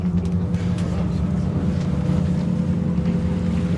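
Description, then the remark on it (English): A boat engine drones steadily, a deep throbbing rumble with a low harmonic hum that holds at a constant level throughout, with faint wind and water noise over it, as the boat pulls away from the quayside out to sea among islands on the west coast of Norway, in the rain. “Okay, so engines powered up. We're pulling away from the quayside and out to sea around these myriad islands on the west coast of Norway.”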